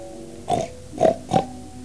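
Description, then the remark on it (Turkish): Three short, nasal pig grunts come in quick succession, moderately loud, with a brief gap before the second and third. No voices can be heard. “Ben etmem der domuz.”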